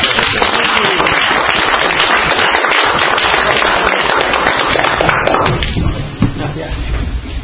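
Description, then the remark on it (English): A round of applause from a crowd to thank a former vice chair for her service: dense, loud, crackling clapping that holds steady for about six seconds, then thins and fades toward the end. “I would like us all to give a round of applause.”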